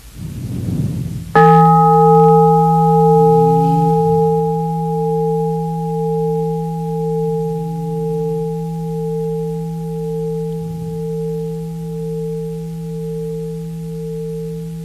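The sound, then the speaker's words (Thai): A single deep meditation bell is struck once, ringing out with rich sustained tones that slowly waver and fade over many seconds, alone with no talking, listened to while breathing in and out three times before a question is asked. “ก่อนจะถามนะ เราฟังเสียงระฆังเป็นเสียงก่อนนะหายใจเข้าออก3ครั้งก่อนที่จะถาม ครับหายใจ”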